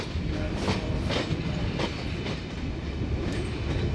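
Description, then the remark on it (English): A sleeper train bound for London rolls steadily along the rails with a constant low rumble and periodic clattering bursts from the wheels, heard from inside the carriage, continuous and moderately loud with no talking. “Now I'm on the sleeper train down to London.”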